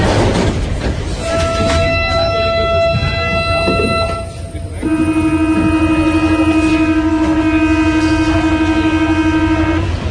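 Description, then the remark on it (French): A metro train rumbles loudly through an underground tunnel, its electric motors giving off steady whining tones that drop briefly midway, then return with a new set of pitches over continuous clatter. “Donc voilà, on va dans ce merveilleux quotidien, cet inaperçu et littéralement cet inouï, les Mozart du métro.”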